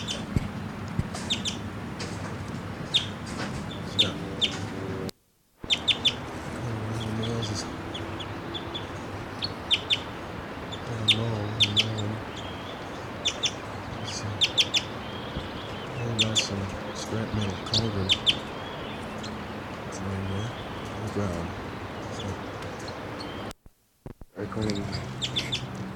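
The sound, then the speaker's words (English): A male bird chitters in flight on his way down to the forest floor, in quick, sharp bursts of high chirps scattered throughout, over a steady low murmur, with two brief dropouts to silence. “That was him chittering in flight.”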